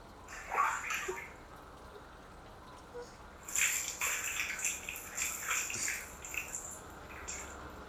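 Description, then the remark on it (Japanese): Water splashes and pours in uneven bursts as it is poured over to rinse off foam: a short gush near the start, a pause, then a longer stretch of sloshing, trickling rinse water for several seconds. “かけますね。”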